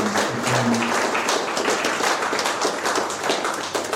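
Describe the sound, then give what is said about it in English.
Steady audience applause for a guest speaker after his talk on fatherhood, a dense wash of many hands clapping at a brisk, even pace, fairly loud and sustained for the full few seconds with no voices over it. “So can we give him another round of applause for Brendan?”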